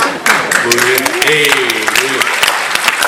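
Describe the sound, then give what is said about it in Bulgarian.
Steady, dense clapping fills the whole clip, a crowd's applause of rapid overlapping claps, with a voice briefly speaking or calling out over it midway. “Кой е пляска там?”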